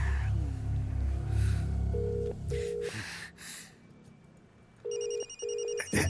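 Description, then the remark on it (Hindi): A phone that someone forgot rings in a repeated double-burst pattern, two pairs of short electronic trills separated by a pause, fairly loud against a low rumbling background with no one speaking. “लगा तो वो अपन फोन भुला गए।”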